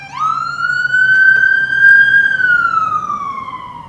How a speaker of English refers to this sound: I'm just going to let this ambulance go right by.